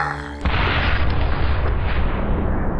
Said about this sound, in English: A bright ball of energy blasted out of the barrel and soared through the sky.